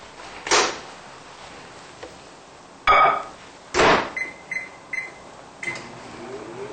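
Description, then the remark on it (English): A microwave oven being used to melt a cup of vegan chocolate chips: several sharp door clunks followed by a short series of high keypad beeps, fairly loud, with no talking. “What I usually do is to put this in a microwave.”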